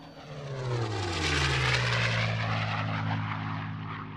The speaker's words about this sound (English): The roar of the engine is muffled by your headset and becomes a background buzz.